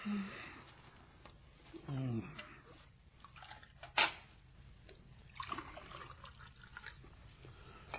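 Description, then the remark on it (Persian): A woman pours a glass of water: water trickles quietly into the glass amid a low, muffled background with faint voices, and a single sharp clink of glass rings out partway through. “خانم یه لیوان آب میریزه واسه ما.”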